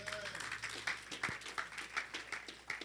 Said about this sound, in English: Clap for the Lord Jesus.